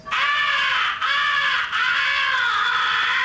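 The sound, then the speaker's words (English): A harsh, raspy crow fighting call blown on a handheld crow call: three loud, drawn-out caws that run almost together with only brief breaks, with no talking. “The third essential call is the fighting call. Make it sound tough and chesty.”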